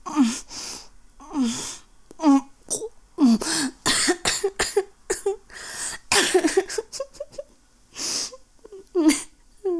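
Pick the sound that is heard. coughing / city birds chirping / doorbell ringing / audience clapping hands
coughing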